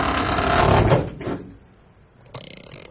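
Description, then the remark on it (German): A wooden wardrobe door swings shut on a person sitting inside, with a rustling, sliding movement and a dull thud, followed by a quieter creak and a soft knock near the end. Fairly loud, with no talking. “Ich setze mich in den Schrank. Sind Sie verrückt? Machen Sie die Tür zu.”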